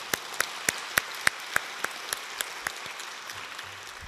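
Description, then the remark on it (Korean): An audience at a church worship service claps in steady unison, giving applause of glory to God before the sermon, about a dozen crisp, sharp claps at a brisk even pace, loud at first, then thinning out and stopping after roughly three seconds. “우리 하나님께 영광의 박수 먼저 올려드렸으면 좋겠습니다.”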